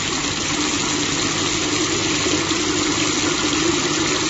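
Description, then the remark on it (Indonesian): A steady, unbroken rush of water running from a bathtub faucet and filling the tub, holding a constant fairly loud level throughout with a low rumbling undertone and no voices. “Ngocor sendiri sih. Rusak kali ya. Aku pun merogoh keran bathtub itu dan akan mematikannya.”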